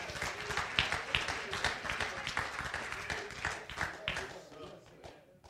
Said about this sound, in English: Now give God a hand clap of praise.